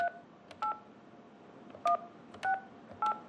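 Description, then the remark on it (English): A phone number is dialed on a touch-tone keypad to call a contractor: five short dual-pitched beeps in an uneven rhythm, each a clear electronic tone over a faint hiss, with no voices. “So we called the contractor and expected a little customer service.”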